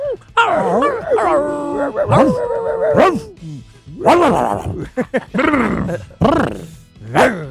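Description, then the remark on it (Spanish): A person imitates a dog, letting out a series of loud, voiced barks and yelps in irregular bursts, some drawn out into whiny howls, with brief pauses between them. “Y puesto número 1, ladrar como perro.”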